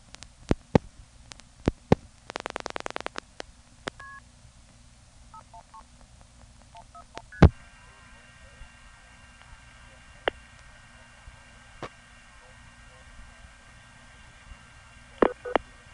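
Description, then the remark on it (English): A series of electronic telephone line tones: a rapid burst of clicks, short paired dialing beeps, then a steady sustained tone, with sharp clicks scattered throughout over a low hum. “Now, tell me, where have you heard that like SFing it? By the way, the polarity of the phone line reverses its go away.”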